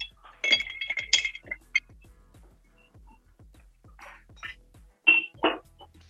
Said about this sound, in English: And then we're going to go with 2 ounces of our Sagamore rye. A nice ice cube to this, and we're going to give it a good stir.